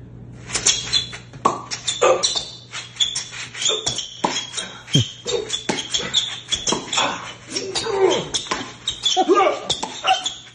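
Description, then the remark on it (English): A voice mimics a tennis match on television as a blind person hears it, with a rapid, busy stream of high squeaky yelps and sharp mouth pops for the ball hits, going on nonstop for about ten seconds. “Well, I was just going to show you what a blind guy hears when tennis is on television.”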